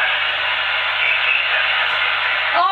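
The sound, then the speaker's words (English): Loud, steady radio static hisses without a break for a few seconds, then a brief warbling tone cuts in right at the end. No voices can be made out. “His own static took him out.”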